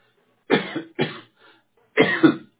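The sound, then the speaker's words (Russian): A series of harsh coughs: two quick bursts, a faint catch of breath, then a final louder double cough, with no talking. “А ты чё кашляешь?”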